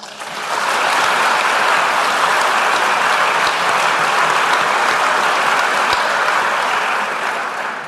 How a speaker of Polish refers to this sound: ale zanim oddam głos fundatorowi nagrody i naszemu nagrodzonemu, proszę o brawa dla pozostałych finalistów, których prace zachwyciły nie tylko promotorów, recenzentów i członków jury, ale udowodniły po raz kolejny, że the sky is the limit. Brawa!